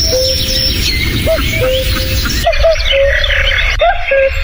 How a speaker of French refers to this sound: Avant qu'il arrive, un mot sur le coucou. Coucou gris, alors, connu pour son chant.